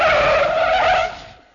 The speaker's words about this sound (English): Piano drew up with a screech of brakes.